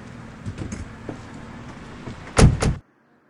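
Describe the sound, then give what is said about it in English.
A car door shuts with a loud thud near the end, preceded by a low vehicle rumble and a few soft clicks, then sudden quiet. “This is my car. Sit down.”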